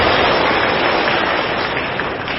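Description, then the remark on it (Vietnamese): An audience of Buddhist followers claps steadily to welcome a senior monk, Vice President of the Executive Council of the Vietnam Buddhist Sangha, in a dense, continuous wash of applause that holds at a loud, even level throughout, with no voices standing out. “Xin toàn thể quý Phật tử dành cho tràng pháo tay để nghe tiếng hòa thượng.”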